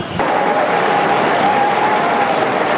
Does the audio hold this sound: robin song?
no